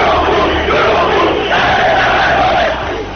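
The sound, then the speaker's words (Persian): A large street crowd in Iran, protesting after the election of 1388 (2009), chants slogans together to demand their rights, many voices shouting in a loud, steady roar with rising and falling rhythmic phrases throughout. “منتها زمان گذشت و گذشت و گذشت تا رسیدیم به سال 88 و ماجراهای بعد از انتخابات، که مردمی که از شعار خسته شده بودن به جایی رسیدن که خودشونم برای شعار دادن و داد زدن و خواستن خواسته هاشون پا گذاشتن به خیابون ها.”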